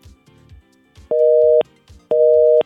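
A telephone busy signal on a failed call: two steady half-second dual-tone beeps separated by a gap, loud and clear, with faint low rumbling and clicks in the quieter stretches between them.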